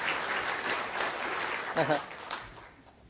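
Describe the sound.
A church audience claps in sustained, dense applause, a steady wash of many hands that fades toward the end, with a brief voice cutting through partway.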